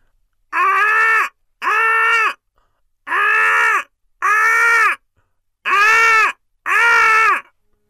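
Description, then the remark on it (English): Voices imitate a barking deer with six loud, drawn-out, high-pitched barks, delivered in three pairs with short silent gaps between them. “And then she pricks up her ears, for she hears the distant barking of deers. She heard the herd. Let's bark like the deer.”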